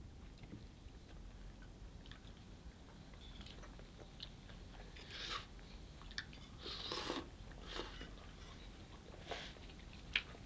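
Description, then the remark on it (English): Several wet, noisy slurps of tea from a mug, coming in irregular bursts over a low, steady background rumble, with no one talking. “Shut up, there's plenty of tea. Yes, boy. Must be house slurping noises.”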